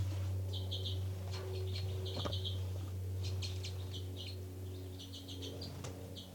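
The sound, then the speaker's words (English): Very soft, high-pitched calls from two birds, numbered 273 and 274, come in short chittering bursts, 273 first, then 274, repeating several times over a steady low hum, with no talking. “Start recording now, birds 273 and 274.”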